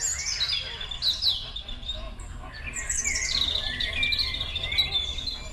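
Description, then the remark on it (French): Several birds chirp and sing at once in a steady, overlapping chorus of high trills and tweets over a low outdoor rumble like wind, at the Dulcine salt pans in Montenegro, in the Balkans. “Nous avons ici plus de 250 espèces recensées en Europe, ce qui est la moitié des espèces d'oiseaux européens.”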